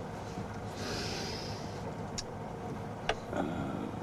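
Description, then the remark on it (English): A car engine idles with a steady low rumble, then a few short mechanical clicks and a clunk near the end as it shifts into reverse and is slowly backed out of a garage. No one speaks. “Danny slowly reverses the car out of the garage.”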